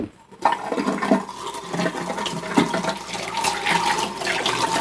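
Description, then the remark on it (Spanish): A toilet flushes: a sudden rush of water starts after a brief pause and keeps swirling and gurgling steadily to the end, with no voices. “En México, tanto se tiene regadera para la ducha, como se cuenta con muebles para limpiar los intestinos.”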